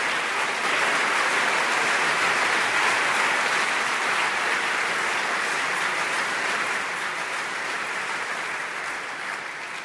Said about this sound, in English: Professor Jeffrey Sachs spoke on June 1st, 2016 at the Technical University Berlin. Here's the applause from an overflow audience in the main auditorium.